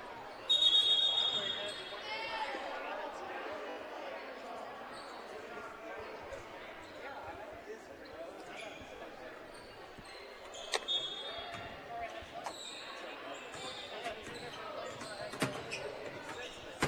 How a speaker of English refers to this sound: Crocker with the basketball. And a travel trying to dribble her way through contact.